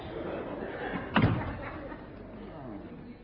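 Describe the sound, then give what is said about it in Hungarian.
A door slams shut once, a sharp, heavy bang just over a second in, standing out above a steady murmur of background voices and room noise. “Ajtó!”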